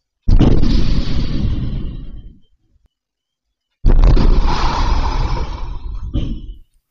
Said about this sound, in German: Zwei Explosionen innerhalb von einer Minute. Erst die Front. Und dann der Automat. Die Explosionsgeräusche, die spielen wir jetzt auch einmal ganz kurz ein.